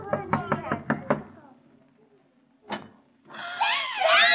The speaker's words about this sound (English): Oh, just knock at the door and you'll find out. Go ahead, knock.